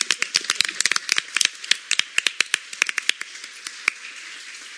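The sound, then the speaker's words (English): A small group at a Bryan ISD school board meeting claps for a $1 million donation from the Donald and Donna Adams Family Foundation for safety and security initiatives: a dense, uneven patter of sharp hand claps that thins into scattered, separate claps before stopping. No one speaks over it. “Yeah, may we clap for that one?”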